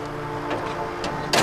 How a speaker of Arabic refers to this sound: يلا سد الباب.